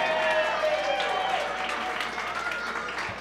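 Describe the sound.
A crowd applauds steadily for several seconds to welcome a performer, a dense wash of clapping with faint voices and cheers mixed in, fairly loud and sustained throughout.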